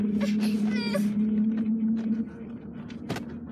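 Short, high-pitched squeals from car brakes sound over a steady low engine hum during the first second; the hum cuts out midway, leaving faint scattered clicks and rustles.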